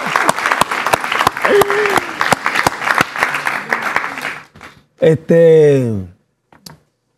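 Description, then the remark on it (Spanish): A burst of audience applause at a live show, dense claps ringing out for about four seconds before fading, followed by a short drawn-out vocal exclamation and a final faint clap. “Un aplauso a él.”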